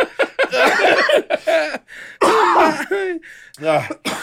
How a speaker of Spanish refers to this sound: A ver, tose.